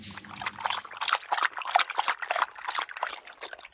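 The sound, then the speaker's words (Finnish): Black coffee pours steadily into cups with a bright, splashing trickle, continuous for a few seconds, with no talking over it. “Kupposet täynnä mustaa kultaa.”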